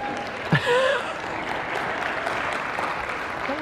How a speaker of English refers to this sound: Notice there's some young pierced people that aren't clapping.